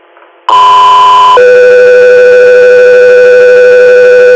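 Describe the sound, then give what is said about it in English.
Loud, steady dispatch alert tones: a higher pitched tone holds for about a second, then drops to a lower sustained tone that continues to the end, with a faint rhythmic buzz beneath. “Customer error, stand by for tones.”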